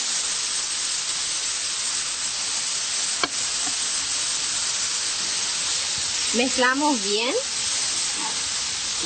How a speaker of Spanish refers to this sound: Le echamos la salsa de soja para que le dé un poquito de más sabor al tofu. Cuando el tofu comienza a agarrar este colorcito y cuando pierde todo ya el agua, le derramamos un poquito del soyo o salsa de soja.